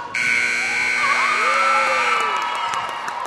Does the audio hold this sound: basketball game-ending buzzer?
yes